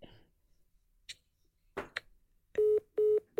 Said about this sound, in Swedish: Jag ringer runt, jag slår in mitt eget nummer men ändrar siffrorna lite.